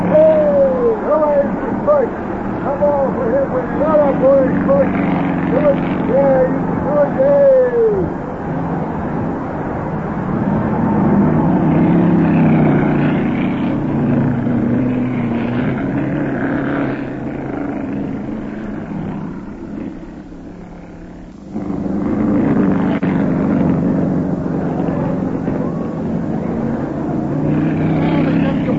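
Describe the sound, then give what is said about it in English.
Racing car engines roar steadily throughout, with repeated revving pitch sweeps early on, then a dense, loud drone that briefly dips before surging back up. “Yeah, but that little feller in car number 3 is right behind him, and he's a tricky driver.”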